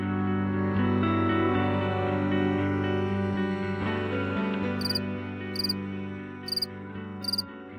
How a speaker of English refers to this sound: Crickets sing to communicate with each other because they're mostly active at night, and so, of course, they can't see each other very well.